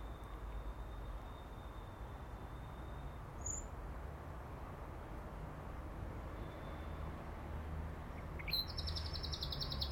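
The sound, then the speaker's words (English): A small bird, sitting and standing in the grass, gives a faint high chirp, then a brighter burst of song near the end, over a steady low rumbling outdoor background with no talking. “Isn't that lovely? That was him. Just sitting and standing in the grass.”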